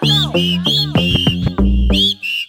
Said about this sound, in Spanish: Todo el mundo chiflando.